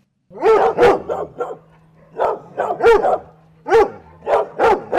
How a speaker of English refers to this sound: Dog owners know what happens when fireworks go off. They get really scared. They just put their ears down and then their tail goes down and they hide in their cage and then they start barking.